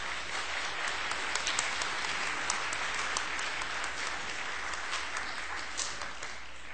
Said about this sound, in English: Isn't she awesome? I think we ought to give Mom and Dad and God a round of applause.